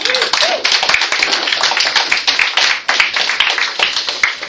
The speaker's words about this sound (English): so she needs to be acknowledged even though she can't be here tonight. So let's clap.